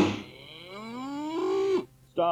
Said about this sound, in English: Stop right there. What the hell is that supposed to be? It's just a cow, man, so don't have one, eh?